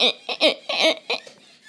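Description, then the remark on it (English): A man sitting on a chair imitates a squeaky chair with his voice: five quick, strained creaks in a halting rhythm, rising and falling in pitch, fairly loud, then trailing off into softer squeaks. “And now he's sitting on the squeaky chair that goes...”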